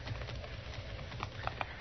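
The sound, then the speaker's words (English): Horse hooves clip-clop at a slow, uneven pace, a few hollow knocks standing out near the end over a steady hiss of background noise. “I got her horse.”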